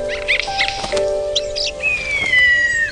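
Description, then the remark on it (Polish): Eurasian jays calling at the carcass of a dead moose lying under snow: a mix of squeaky chirps and a long, drawn-out falling whistle, heard over a steady low background hum with no voices. “Padlinę odkryły sójki.”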